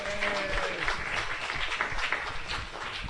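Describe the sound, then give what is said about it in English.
A crowd of people at a meeting applauds new members steadily for about three seconds, a dense, even patter of many hands clapping at once with a faint murmur of voices underneath. “Have a big round of applause for our new members.”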